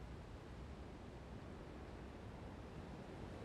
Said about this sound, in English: The river moves sluggishly along these parts. At times, it's hard to even hear it.